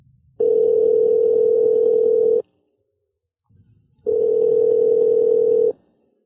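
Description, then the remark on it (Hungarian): A telephone ringback tone sounds twice, each steady electronic tone lasting about two seconds with a pause between, loud, as a call is being placed. “telefonon felkerestük Szent Királyi Mihályt”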